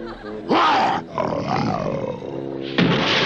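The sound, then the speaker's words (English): A tiger roars loudly in three rough, growling bursts, the middle one longest, with only brief pauses between them and no speech. “Some ferocious tiger.”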